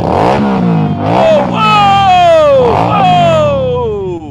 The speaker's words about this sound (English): There you have it. You can really feel it in your chest there, the support for Donald Trump. And just the engine on that motorcycle.